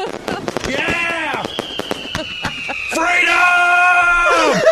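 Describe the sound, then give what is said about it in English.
Fireworks being lit off while someone showers, going off in a rapid, irregular string of sharp cracks and pops, while a voice screams and yells loudly over the bangs throughout. “I'm going to light these off while you're in there.”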